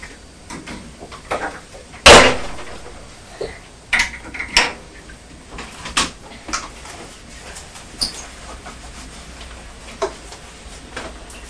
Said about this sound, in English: Will you close it? Yes, you close the fridge door.